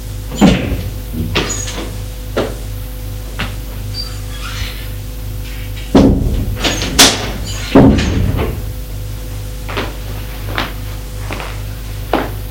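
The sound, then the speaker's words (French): A door creaks open and thuds shut with a few knocks and clunks as someone enters an office after knocking, fairly loud, over a steady low electrical hum with no voices. “On a frappé à la porte. Entrez.”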